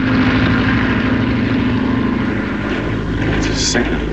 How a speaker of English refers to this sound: It's a signal for that plane to land.